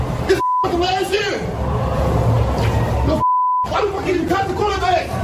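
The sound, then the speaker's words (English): Two short, steady censor bleeps cut sharply through a man's heated, raised speech, each a pure mid-pitched tone lasting about a third of a second, masking swear words. “Glad that was beeped.”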